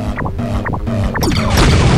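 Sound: video game explosion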